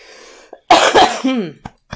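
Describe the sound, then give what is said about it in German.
A loud cough in a couple of harsh bursts, followed by a short raspy throat sound and two brief faint catches of breath, with no talking. “Der Husten, das tut mir wirklich leid.”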